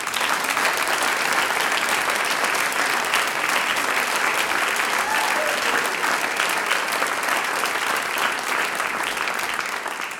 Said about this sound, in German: Wir sind froh, dass ihr heute da wart, der …. Applaus für euch.